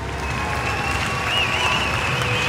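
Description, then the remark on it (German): An audience applauding at length after a film screening at the Lichtburg, an old theatre and cinema, many hands clapping in a dense, even roar that holds at the same loudness throughout, with a thin high whistling tone faintly threading through it. “Ja, ziemlich langer Applaus.”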